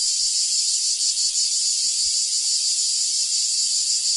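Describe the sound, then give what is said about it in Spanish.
A cicada sings a shrill, unbroken buzzing drone that stays loud and steady for the whole few seconds, with no voices or other sounds over it. “El cant de la Chicharra, música i desfici en UPV Ràdio.”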